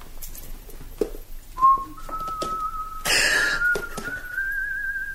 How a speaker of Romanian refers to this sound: De ce fluieri?